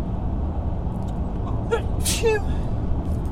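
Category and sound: human body sound, sneeze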